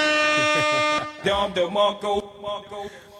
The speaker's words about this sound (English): Do I get a buzzer for that?